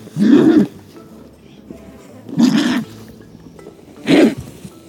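A California condor calls with three loud, harsh, low-pitched grunting hisses, each under a second long and spaced about two seconds apart, with quiet between them and no talking.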